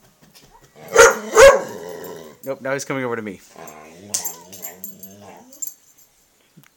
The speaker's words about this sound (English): Don't use that tone of bark at me. That's foul language for a dog. Where'd you learn that?